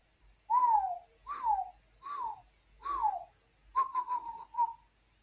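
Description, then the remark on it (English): A person whistles an imitation of a Baltimore Oriole's song: four clear, downward-slurring notes, then a quicker run of fluttery whistles. It is fairly loud, with no talking. “No, that's the Baltimore Oriole.”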